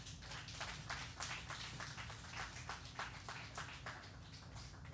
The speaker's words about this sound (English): And everybody said, amen. Give the Lord a little hand clap.